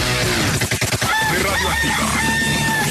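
A rooster crows loudly and close by, one long drawn-out cock-a-doodle-doo following a brief burst of rustling at the start, with no talking.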